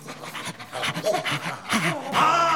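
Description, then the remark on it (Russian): Police bloodhounds sniffing out a trail pant and sniff in quick, rhythmic bursts of breath, with a few short whining tones rising through it and the panting growing louder toward the end. “Впереди вынюхивали след полицейские ищейки.”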